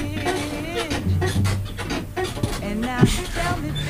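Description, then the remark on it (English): A chair creaks loudly, with a run of squeaky groans and scraping rubs that rise and fall over a few seconds, plus a sharp knock near the end. “It's a very loud chair. They're all super loud except for this one.”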